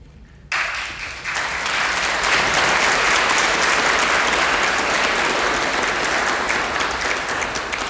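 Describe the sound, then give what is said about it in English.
A crowd bursts into sustained applause, many hands clapping in a dense, steady wash that swells after the first second and stays loud and even to the end. “All right, no more clapping.”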